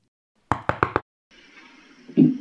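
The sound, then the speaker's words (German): In a Christmas nativity story, a girl and her mother knock on the wooden stable door where Mary and Joseph are: four quick, firm, evenly spaced knocks. After a short silence comes a softer scraping, shuffling noise that ends in a low thud as they enter. “Beim Stall angekommen, klopfen Hanna und ihre Mutter an und treten ein.”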